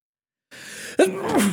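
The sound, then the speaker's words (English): A single loud human sneeze: a sharp breathy intake followed by an explosive burst, with no talking around it. “needs to sneeze, and he needs you all to hear it.”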